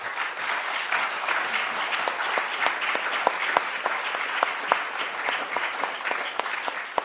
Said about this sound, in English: And these are your nine candidates currently running in the 21st District Congressional race. This is your first opportunity to applaud if you'd like.